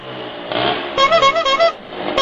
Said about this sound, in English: Loud pipes and fast bikes.